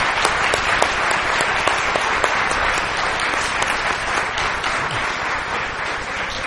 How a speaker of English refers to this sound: So, I want everyone who helped out with it, all the adults, all the youth, to stand up. And I'll give you a big round of applause. Everyone give them a big round of applause.